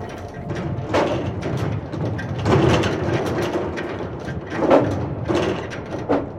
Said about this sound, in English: With a mighty clang, one of the cultists placed a metal bar across the door.